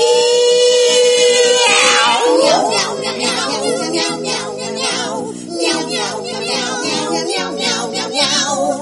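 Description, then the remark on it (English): A long, drawn-out meow slides upward and then down, loud, followed by a dense, continuous wash of layered tonal sounds that carries on to the end. “Meow, 3 a.m. is my best time for racing around.”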